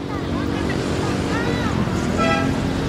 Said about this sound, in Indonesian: Mengatur lalu lintas di persimpangan yang ramai di Manila bukanlah pekerjaan mudah.